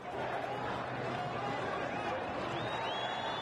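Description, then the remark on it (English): A large crowd of pro-democracy demonstrators waving flags in Tahrir Square, Cairo, Egypt, chants the rallying cry "Mubarak must go" and shouts in a dense, steady roar of many voices, loud and unbroken throughout, with a few high whistles cutting through near the end. “Once again, the rallying cry, Mubarak must go. The crowd is waving flags, monitoring new arrivals to Tahrir Square to make sure pro-Mubarak supporters do not infiltrate the crowd.”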